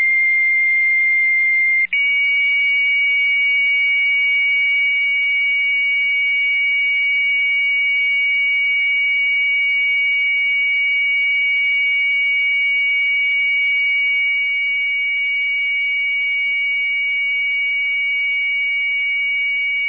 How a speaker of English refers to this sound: Yes, the high-speed computer modem.